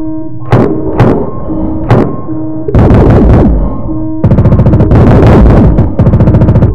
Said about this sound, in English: They're shooting at us!